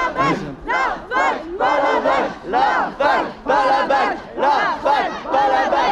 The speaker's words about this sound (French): En fait les étudiants gueulent qu'ils sont tous ensemble.